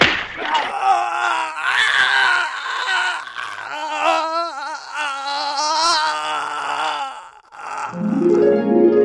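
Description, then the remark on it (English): A chaotic brawl in which a chair is smashed on someone, full of strained groans, grunts and wavering cries from several voices, with a few sharp smacks and thuds mixed in, loud throughout. “When you smashed that chair on that fat one and winked at me, I knew I'd met a friend for life.”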